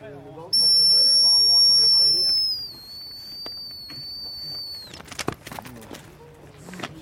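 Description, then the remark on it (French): A dog handler blows a whistle to recall a dog: a loud, sustained blast with a steady high pitch rings out for about two seconds, then fades, followed by outdoor shuffling, sharp knocks and background voices. “pour éviter de s'exposer, je vais rappeler, hein, à l'aide d'un sifflet. Comme ça, le chien va décrocher et venir se récompenser tout seul.”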